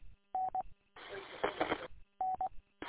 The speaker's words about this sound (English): The tones have been sent. The tones have been sent for the August siren test. Stand by.